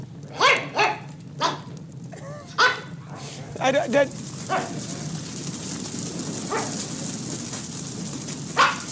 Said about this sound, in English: Now, what kind of dog is that other one barking? It sounds adorable. Yeah, that's a cute dog.